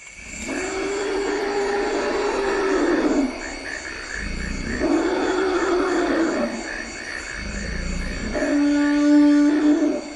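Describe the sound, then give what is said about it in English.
Elephants call repeatedly in the wild in the Central African Republic, giving about four deep, drawn-out rumbling bellows with a tonal edge, set against a steady backdrop of buzzing insects and forest ambience. “She also traveled to the Central African Republic to eavesdrop on elephants.”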